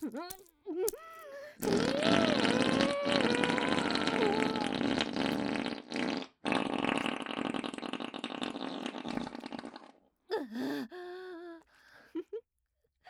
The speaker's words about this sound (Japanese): 出る出るよおなら。